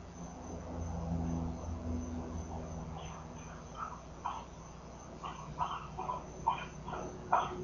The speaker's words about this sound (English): There's my dog drinking, I'll mute.